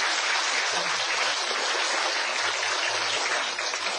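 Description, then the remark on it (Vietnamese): A sustained round of applause from a crowd of Buddhists at Từ Ân temple in Ottawa, many hands clapping in a dense, steady wash of sound that holds at an even loudness throughout, with no voices standing out. “Xin cho một tràng vỗ tay.”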